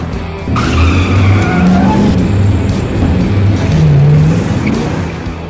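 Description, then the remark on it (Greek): A 1958 Plymouth Fury engine revs loud, its pitch climbing and dipping over a constant roar, with a squealing, skid-like edge running through it and no voices. “Είναι μια στοιχειωμένη Plymouth Fury του 1958”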